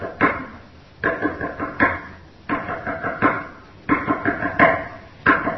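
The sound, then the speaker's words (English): Repeated knocking on a hard surface, struck in quick clusters of three or four raps with short pauses between, fairly loud and resonant, with no voices. “That's the idea, he says, I'm knocking. I'm continuing to knock.”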